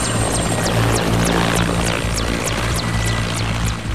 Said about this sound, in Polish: Bardzo dobry śmigłowiec, zabiera 24 osoby na pokład. Prędkość jego przelotowa 210 km na godzinę, maksymalna 250. Jest to śmigłowiec i wsparcia, i transportowy do wspierania wojsk i działań własnych i do przerzutu oczywiście.